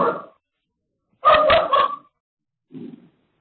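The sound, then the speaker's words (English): A dog barks in a few scattered bursts: a short yelp, then a louder run of quick barks, and finally a faint, low woof, with quiet gaps between and no talking. “So is there a pool going about whose dog that is?”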